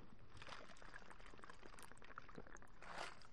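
taking a drink

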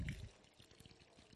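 water pouring

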